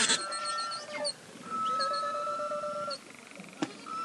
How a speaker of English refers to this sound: Accounts from the 1940s through the 1980s detail beluga sightings from Homer to Anchorage of hundreds of whales. Whales communicating with each other in a strange canary-like whistle and making a whoosh sound as they exhaled through their blowholes.